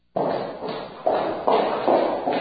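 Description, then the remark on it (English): Footsteps walk along a street in a steady rhythm, about five firm steps, with no voices. “Imagine walking down the street and hearing footsteps behind you.”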